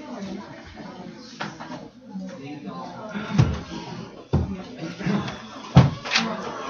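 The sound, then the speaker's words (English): A few sharp, hollow thuds land at irregular intervals, like knocks on a wooden door, fairly loud over a low murmur of background voices. “Knock.”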